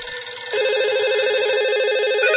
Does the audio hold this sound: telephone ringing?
yes